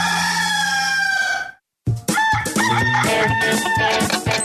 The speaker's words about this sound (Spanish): ¡Este es el gallo!